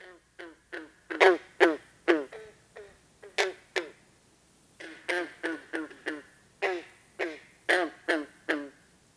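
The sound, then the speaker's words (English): Green frogs calling at Turtle Pond: a steady series of short, twangy, banjo-like gulps, about twenty in quick succession, some louder than others, with no voices. “Green frogs.”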